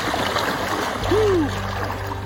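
people wading into water

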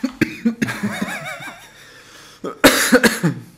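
coughing

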